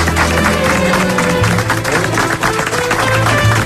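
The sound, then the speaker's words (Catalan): A room full of people bursts into sustained, loud applause for Elisenda Roca, dense clapping with a few cheers mixed in, lasting the whole few seconds. “Un aplaudiment per Elisenda Roca.”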